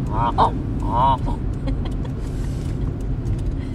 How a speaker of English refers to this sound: There's a lot of geese. Look at them out there. See them? Yep.